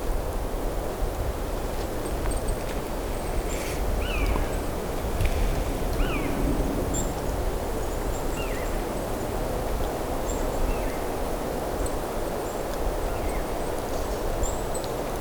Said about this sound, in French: Une brise constante dans la forêt. Produisant ce souffle.